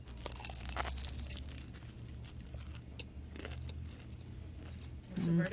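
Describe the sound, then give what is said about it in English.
Crackly crunching as someone bites into a crisp, cabbage-filled egg roll and chews, with a string of sharp crunches over several seconds and a brief murmured voice near the end. “All right, I'm going to try the egg roll first.”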